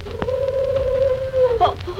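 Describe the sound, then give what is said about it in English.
A hoot owl gives one long, drawn-out, low hoot that holds a steady pitch for over a second, then breaks off with a brief wavering rise, over faint crackly background noise. “What was that, Jack? Just a hoot owl, Betty.”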